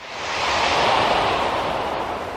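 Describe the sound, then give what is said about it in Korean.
Wind blows in a steady, broad rushing hiss that swells over the first second and then holds at a fairly loud level, with a low rumble underneath and no voices. “읍장은 바람소리에도 놀라서 사방을 살핀 뒤 두 사람에게 단단히 일렀다.”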